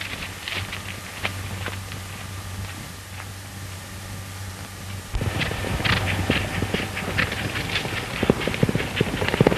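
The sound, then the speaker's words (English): Horse hooves clip-clop at a steady walking pace, the beats growing louder and busier halfway through, over a low background hum. “Get on a horse and we'll ride out quietly.”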